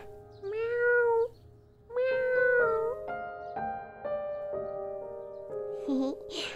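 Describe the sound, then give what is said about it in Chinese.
A kitten gives two drawn-out, wavering meows, then a shorter mew near the end, while soft sustained musical notes play underneath. “对呀对呀，我就是那只小猫咪呀。”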